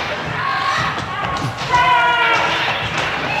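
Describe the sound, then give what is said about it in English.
A dense, chaotic din of overlapping shrieks and cries, punctuated by sharp cracking hits like lashes from a whip, all fairly loud and continuous with no pause; a sound-effects CD track of whips and screams, billed as an orgy. “Let's try orgy with whips and screams. We'll see just how good this stupid CD is.”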